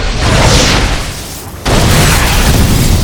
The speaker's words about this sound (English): The fire struck the building just above the second floor, punching through the windows.